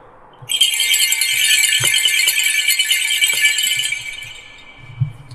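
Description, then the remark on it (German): Sleigh bells on a bell wreath (Schönkranz), the kind used on horse-drawn sleighs as acoustic warning bells in winter, jingle in a bright, dense shimmer, shaken steadily for about three and a half seconds before trailing off into quiet, with a few soft knocks underneath. “Das ist ein Schönkranz, ist eigentlich bei uns bekannt für die Pferdefahrwerke, Schlittenglocken.”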